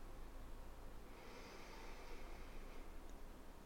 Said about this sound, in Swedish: Vi kan andas in tillsammans i 3 sekunder och andas ut i 3 sekunder. Så vi andas in. Andas in. Och andas ut. Andas in. Och andas ut. Andas in. Och andas ut. Andas in.